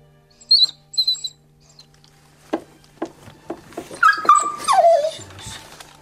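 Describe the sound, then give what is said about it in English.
A dog whimpers while giving birth to puppies: two short high-pitched squeaks, some faint shuffling, then a longer whine that slides downward in pitch before fading. A person holds the emerging puppy's legs to assist as she pushes. No one speaks. “I would prefer if it were coming up more quickly than this, but I'm holding on to the legs here, and as she pushes, I can kind of assist.”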